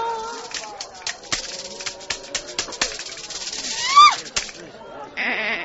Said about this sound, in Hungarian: most rajtad a sor, kis kecském.